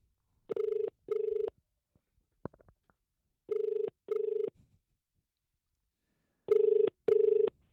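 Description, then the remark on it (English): A telephone call to the Sizzler restaurant in St. George ringing out, three double rings of a steady, buzzing mid-pitched tone with even pauses between each pair, and a few faint clicks in one gap. No one speaks. “We decided to ring Sizzler this afternoon.”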